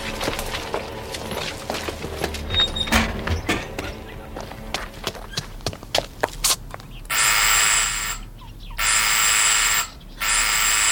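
Quick footsteps patter and speed up, then a harsh electric doorbell buzzer blares in three long, insistent bursts with short gaps between them, loud and urgent.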